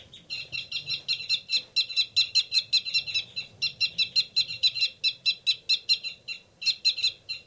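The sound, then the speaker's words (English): Two caged birds, numbered 273 and 274 and sharing one cage, squabble with fight calls: a rapid, steady series of harsh, high-pitched chattering notes, several per second, loud and nearly continuous with one brief pause, and no voices. The rapid calls are from the male. “Recording this big commotion going on in 273 and 274's cage.”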